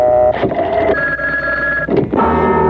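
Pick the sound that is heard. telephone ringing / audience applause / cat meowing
telephone ringing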